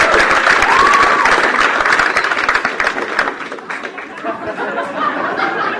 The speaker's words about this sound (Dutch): Een groot applaus voor Roelof, onze winnaar van de Bijbelquiz.